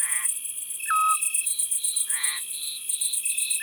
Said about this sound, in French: Ça, c'est un petit duc. Cette note de flûte.